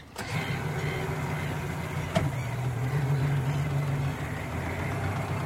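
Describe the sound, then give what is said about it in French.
The small harbour of Piriac in Brittany at 6 in the morning, with a few fishing and pleasure boats at anchor; a steady low engine drone like a moored boat idling, with one brief knock midway and no voices. “Le petit port de Piriac en Bretagne. 6 heures du matin. Quelques bateaux de pêche et de plaisance au mouillage.”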